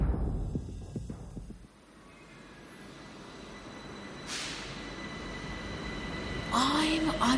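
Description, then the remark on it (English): A subway train heading to Shahid Hemat Highway rumbles steadily along, with a brief rushing hiss partway through and a high metallic wheel squeal rising near the end. “Subway for a ride to Shahid Hemat Highway, where I can get to the National Museum of the Islamic Revolution and Holy Defense.”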